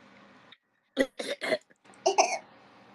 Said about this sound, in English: I needed to cough.